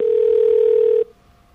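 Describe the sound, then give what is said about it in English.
A single loud telephone keypad tone, a steady electronic beep lasting about a second, as 3 is pressed for operator assistance in the automated menu of the White House feedback phone line, cuts off abruptly into quiet line hiss. No one speaks. “If you need operator assistance, please press 3. If you have a rotary phone, I'm going to go for operator assistance.”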